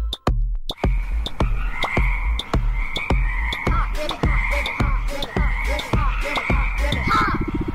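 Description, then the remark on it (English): A frog croaks over and over in a steady, quick rhythm, each call a short, loud pulse, continuing for several seconds with no voices. “Have you ever wondered how a frog grows up?”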